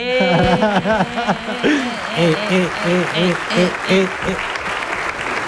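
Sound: applause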